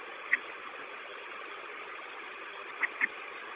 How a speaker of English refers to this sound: The bus hasn't been running long enough to fill all the air tanks. So give it a little bit, about 5 more minutes.